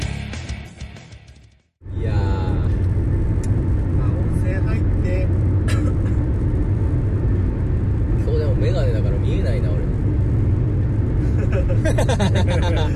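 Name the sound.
car interior driving noise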